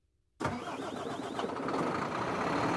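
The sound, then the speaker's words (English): Ambience at a truck depot in northwest Turkey, about 30 miles from the frontier with the European Union: a heavy engine abruptly roars to life after a moment of near silence, then keeps running loud with a dense, steady rumble and no voices. “A truck depot in northwest Turkey, just 30 miles to the west, is the frontier with the European Union.”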